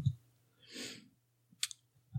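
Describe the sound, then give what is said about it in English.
A brief cluster of sharp, bright clicks from a mechanical keyboard as someone clicks over to Amazon, following a soft breathy exhale, with dull low thumps at the start and end and no talking. “I'm trying not to type because I have a mechanical keyboard, and it's obnoxious.”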